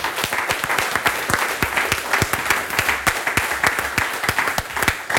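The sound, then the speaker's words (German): An audience applauds the presenters steadily for several seconds, a dense crackle of many hands clapping at once with sharp individual claps poking through, loud and sustained without any voices. “Ich bedanke mich bei den Vortragenden und bitte vielleicht jetzt um einen tosenden Applaus,”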